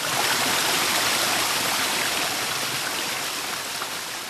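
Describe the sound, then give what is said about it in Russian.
A steady rush of flowing water, like a brisk stream, fills the whole stretch with a dense, hissing wash that eases only slightly toward the end. No voices. “Первыми солнечными лучами ушла вода.”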